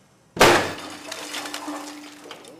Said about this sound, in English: At an outdoor laboratory near San Diego, a reinforced concrete column is about to be hit with the equivalent of a car bomb holding 1,500 pounds of TNT. 3, 2, 1.